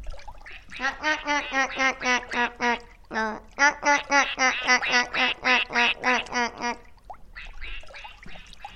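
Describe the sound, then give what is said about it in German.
Ducks on a lake quack in a long, rapid run of loud, nasal calls, about twenty in a row with one brief break, as they paddle away, then trail off into faint, scattered sounds. “Die Enten paddelten entrüstet davon.”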